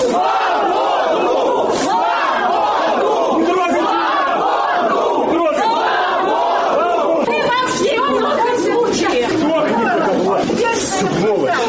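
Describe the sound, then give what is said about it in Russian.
A large crowd of protesters gathered outside a court building in Minsk, Belarus, shouts and chants continuously in reaction to a verdict against a participant in the elections and the December 19 square protest; many voices overlap in a loud, dense roar with rising and falling cries throughout. “Ось так усприйняли мінчуки, які собралися ля будинку одного з мінських судов, вердикт у дочиненні до удільника виборів і протесту на площі 19 снежня.”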